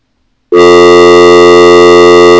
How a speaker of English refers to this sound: Alright, so we can bring the dial tone into the board. We do have dial tone into the board.